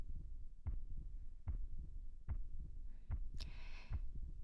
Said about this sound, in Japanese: 心臓の音、少しだけ速くなったかも。ほら、ドキドキ、ドキドキ、ドキドキ。